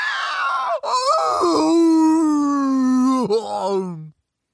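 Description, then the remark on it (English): A person imitates Obi-Wan Kenobi's eerie creature-like yell used to scare off the Tuskens: one long, wavering, howling cry that starts high, drops and holds a strained sustained tone, then rises and trails off after about four seconds. “Notoriously, Obi-Wan Kenobi's yell to scare off the Tuskens.”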